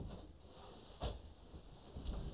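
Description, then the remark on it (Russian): A window is opened slightly: a short, sharp latch clack followed by a soft scraping rustle as the frame moves, quiet against a low hum. “Слушайте, давайте окно немного приоткроем.”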